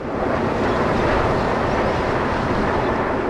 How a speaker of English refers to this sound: Airplanes seem to sound louder and fly lower when you're on the roof of a five-story apartment building.